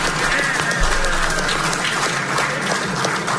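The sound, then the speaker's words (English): Steady applause from a crowd during an address to local media in Shreveport, Louisiana, fills the whole stretch, a dense, continuous patter of many hands clapping at a fairly loud, even level with no voices standing out. “Who's clapping? The media?”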